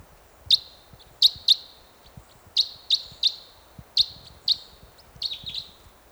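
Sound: bird chirping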